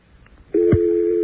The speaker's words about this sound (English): Let's try ITT. This can be a lot of fun if you have access to all the companies. We will now hear the ITT dial tone come in.